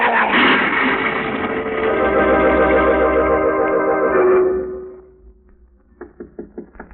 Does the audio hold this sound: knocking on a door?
yes